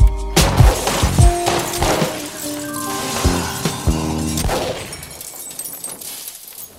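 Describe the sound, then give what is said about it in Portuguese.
A burst of several loud gunshots, sharp cracks fired in quick, irregular succession over a ringing, metallic backdrop that thins out and fades near the end. No one speaks. “Puxo o gatilho, cumpro a minha promessa e recebo vários tiros.”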